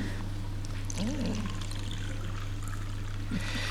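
Water pours steadily into a cup for a person, a continuous splashing trickle lasting a few seconds over a faint low hum, with no one speaking.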